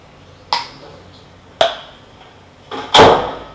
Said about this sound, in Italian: E sono sempre dello stesso materiale, sono sempre cioè è sempre il metronomo. E poi c'è lo sbattito della porta